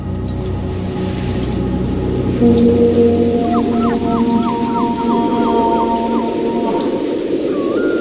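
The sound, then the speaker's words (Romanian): A steady storm roars throughout, with a dense wash of rain and low rumbling thunder, plus faint whistling tones and a brief run of chirping glides partway through. No one speaks. “Nu se mai potolește furtuna”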